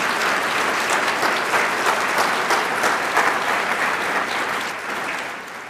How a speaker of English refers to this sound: If you are, would you stand up? And I would just ask that we give them a very big round of applause.